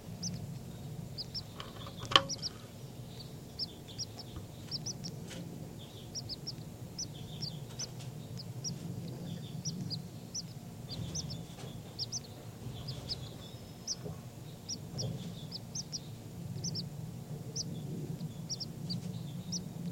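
Baby birds call continuously in a dense series of short, high-pitched chirps over a steady low rumble, with one sharp click partway through. No voices are heard.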